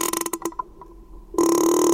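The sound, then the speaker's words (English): A young female whale's call, like a creaking door hinge, used to communicate and socialize: rapid ratcheting clicks that slow and fade, a short pause, then a loud sustained groaning creak with a steady tone. “She made a sound like a creaking door hinge. It's one of the ways whales communicate and socialize.”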